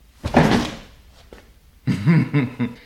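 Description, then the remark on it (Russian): A door is opened or shut with a brief rattling clunk, followed after a short pause by muffled voices. “Извините, я, кажется, не в ту дверь попал.”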